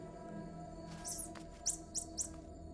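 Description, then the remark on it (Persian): A small social primate gives a rapid series of high, sharp alarm chirps on detecting a snake, first a quick trill then three distinct squeaky chirps in close succession, signalling the highest level of danger, over a quiet natural background hum. “سه جیک جیک سریع خبر از بالاترین میزان خطر می دهند.”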